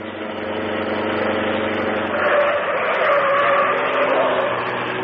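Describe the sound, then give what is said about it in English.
The Green Hornet's car engine roars loudly, surging after a couple of seconds as tires squeal over the sustained rumble while the car drives right past people. No voices are heard. “Drive right past them, Cato.”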